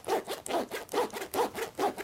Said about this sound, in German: Wenn man es öffnet, macht es so ein Geräusch. Wenn man es zuklappt, dann hört sich so an. Eigentlich wie beim Aufmachen. Mach mal den Reißverschluss so hin und her.